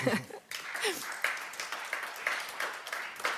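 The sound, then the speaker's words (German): An audience applauds in a dense, steady patter of many hands clapping at once, holding at a moderate level throughout, with a brief murmur of voices near the start. “Gerne, klatschen Sie gerne.”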